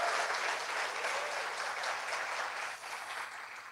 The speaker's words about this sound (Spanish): Dale un aplauso. Él merece toda la gloria.